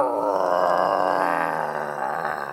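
A loud, deep, angry bear roar, as the bear comes out of its den, rumbles continuously for a couple of seconds, growling throughout, fading slightly at the end.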